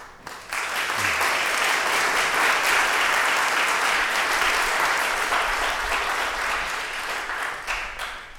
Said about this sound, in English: You know it's going good when the students clap for their principal. That's good.